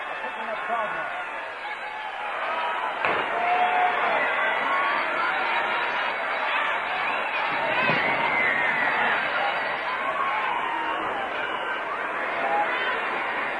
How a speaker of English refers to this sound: We'll let you listen to more of this crowd. Come on downtown and enjoy VJ Day.